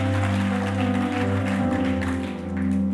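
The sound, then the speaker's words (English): An audience claps steadily in a dense, continuous patter, layered over sustained low droning tones, with no voices standing out. “It's true, you can clap.”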